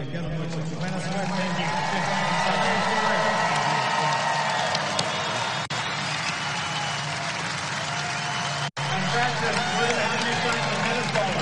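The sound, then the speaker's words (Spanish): A large crowd at the Miami tennis tournament gives a sustained ovation to retiring tennis player David Ferrer after his loss to Frances Tiafoe, with dense applause and cheering voices holding at a steady, loud level for over ten seconds and one brief break near the end. “Ovación para David Ferrer, sí, señor.”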